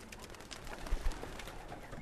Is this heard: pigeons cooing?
yes